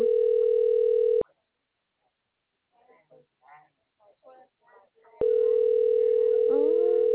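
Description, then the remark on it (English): A loud, steady electronic phone tone drones for about a second, cuts out while faint muffled voices murmur, then returns just as loud and continuous. “Time that shit was still ringing. Sound like yours beeping.”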